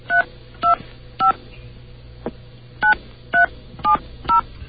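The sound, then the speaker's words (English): A toll-free 800 phone number being keyed in with touch tones: eight sharp two-pitch beeps in two quick groups of three, then four more after a brief pause, over a steady low hum, no voices. “please forgive the dial tone you're about to hear. Okay. As I dial this number.”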